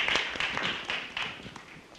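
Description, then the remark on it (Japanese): An audience claps their hands in a dense, steady burst of applause: many overlapping crisp slaps at a moderate level, thinning and softening slightly toward the end, with no talking, welcoming a woman coming forward to share her testimony. “so let's welcome her with a hand clap.”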